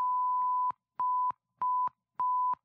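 Clean, steady Morse code tone beeps at a single pitch: one long tone followed by three shorter ones, evenly spaced with brief silent gaps, clear with no talking.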